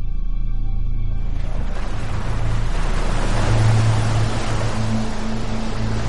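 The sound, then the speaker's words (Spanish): A submarine surfaces onto a clear ocean: a low steady engine hum gives way to a swelling rush of churning water and surf that stays loud, with no voices. “El Growler emerge a la superficie. El océano está despejado.”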